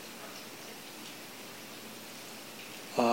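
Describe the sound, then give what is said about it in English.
Steady, soft rain patters with an even, continuous hiss throughout, with no distinct drops standing out; a voice begins just at the very end. “So we say, oh yeah, well, it's just the sound of the rain.”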